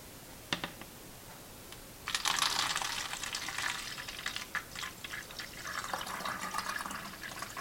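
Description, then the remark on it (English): A couple of faint clinks, then photographic stop bath is poured from a beaker back into its storage bottle: a steady splashing trickle that runs for several seconds with small gurgles and taps, no talking. “So I'm going to go ahead and pour this stop bath out of this beaker back into its storage bottle.”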